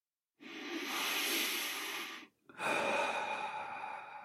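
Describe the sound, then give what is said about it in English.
A slow, deep breath in followed by a long exhale, clear, each lasting about two seconds with a brief pause between them; no talking. “Now try taking 3 deep breaths just to let out any tension from the day.”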